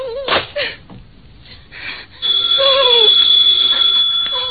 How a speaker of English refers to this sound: The phone kept ringing and ringing until I guess I went a little crazy.